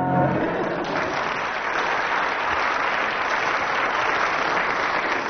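A show audience applauds a contestant's performance, the applause judged 9 out of 10; steady, dense applause that holds at an even, loud level throughout, a broad wash of many hands clapping with no voices standing out.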